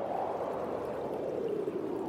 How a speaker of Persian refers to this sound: یه لحظه نشست و پاشو گرفت تو دستش و به جریان آب خیره شد.